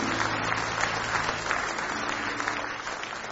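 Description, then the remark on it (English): An audience claps in praise, a steady wash of many overlapping hand claps sustained at even loudness throughout, with no voices standing out above it. “Can we give Him a hand clap of praise today?”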